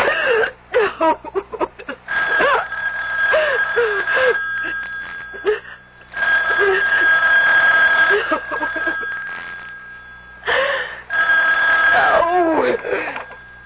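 A telephone rings in long, steady bursts of a few seconds each, separated by short pauses, its bright metallic trill loud and continuous. Brief vocal sounds come before and between the rings.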